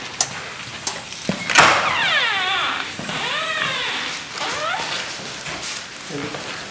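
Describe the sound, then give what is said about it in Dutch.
A few sharp latch clicks, then a back door of a convent building swings open with a long, wavering squeak of hinges that rises and falls for several seconds, fairly loud. “Ik zal deze deur open doen en hebben we daar wat licht van buiten.”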